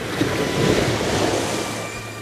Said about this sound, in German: Die drei Detektive rannten zum Strand und erklommen die Felsen, an denen hohe Wellen aufschlugen.